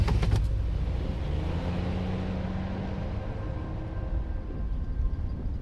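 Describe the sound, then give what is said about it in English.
A police car engine rumbles steadily as the vehicle pulls away, a brief clunk at the start and a low droning hum continuing throughout with no talking. “Detective Blow put Lydia into the back of the police car and pulled out.”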